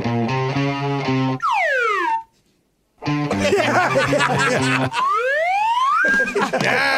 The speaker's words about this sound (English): The slide whistle can make any song sound better.